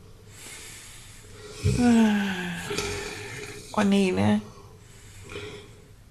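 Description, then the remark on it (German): Two loud, drawn-out snoring sounds a few seconds apart, apparently made by a voice imitating the snores of a robot character, with a few muttered words and a quiet background hum. “Und was tut der? Der schnarcht.”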